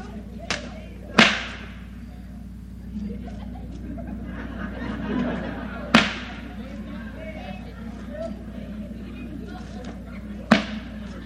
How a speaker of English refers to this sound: I think I better use a longer whip on that thing, don't you? I better use a longer whip.